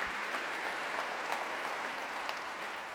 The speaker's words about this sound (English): As the applause continues here, I'll hand you on to Broadcasting House.